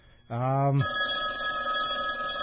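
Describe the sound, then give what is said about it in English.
A phone bell rings once for an incoming call, a bright, buzzy harmonic tone that gives way to a thinner sustained ringing over steady background noise. “I think it's just playing a bell sound when somebody calls.”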